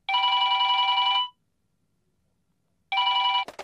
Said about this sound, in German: Als ich daheim angekommen bin, konnte ich kaum meine Koffer abstellen. Schon hat das Telefon geläutet.